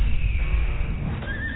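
horse neighing

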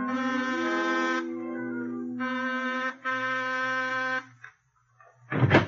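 doorbell ringing

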